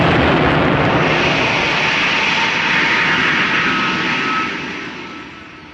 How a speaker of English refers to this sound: The rocket's gone. It went straight up there. It had terrific speed. We were supposed to go up with it.